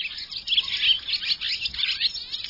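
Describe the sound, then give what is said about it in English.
A busy chorus of swallows chirping and twittering, many high, rapid calls overlapping continuously at moderate loudness, with no speech; the swallows are migrating south by day, foraging for insects as they go. “Migrating by day, swallows forage for insects as they move south.”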